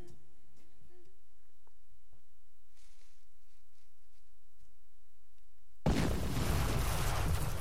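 After several seconds of near silence with a few faint ticks, a sudden loud dynamite blast erupts as many explosions and keeps roaring and rumbling, heavy, until the end.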